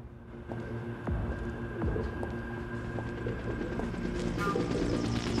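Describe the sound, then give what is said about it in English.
A helicopter drones steadily overhead above a dingy backstreet, its low rotor throb and engine hum holding at an even, moderate loudness for several seconds, with no voices. “At the sound of the helicopter, Alex looks up.”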